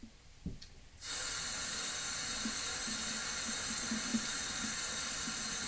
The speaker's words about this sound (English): Now we have water restrictions here, which is why I'm turning the tap on and off, because we've got low water supplies and things, so just try to save water.